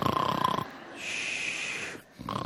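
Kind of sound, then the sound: vocal imitation, voice imitating snoring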